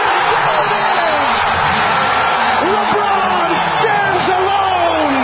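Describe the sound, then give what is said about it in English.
A packed Los Angeles Lakers arena crowd roars in sustained, loud cheering as LeBron James hits a fallaway shot late in the third quarter against Oklahoma City to pass Kareem Abdul-Jabbar's NBA scoring record, with scattered whoops and yells rising above the dense wall of noise. “James connects on a fallaway shot in the final seconds of the third quarter against Oklahoma City, and the L.A. crowd erupts.”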